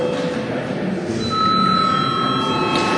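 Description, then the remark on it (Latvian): The Saeima session bell, rung for a break and registration, rings continuously, a steady high electric tone with a sustained buzzing texture over a low murmur of the room, growing slightly louder midway. “Godātie kolēģi, laiks pārtraukumam, lūdzu zvanu, lūdzu reģistrācijas režīmu.”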